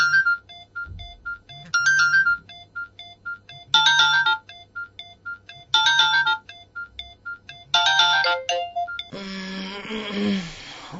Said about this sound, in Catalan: Ai, aquest despertador, mare meva.